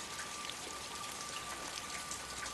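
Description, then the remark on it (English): Steady rain pattering on surfaces outside the front door of a house in the evening, a dense, even hiss of countless drops with no pauses, continuous, with no voices present. “This evening, I came out the front door of the house and it was raining.”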